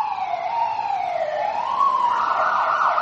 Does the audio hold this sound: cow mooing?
no